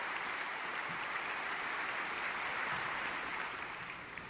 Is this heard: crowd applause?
yes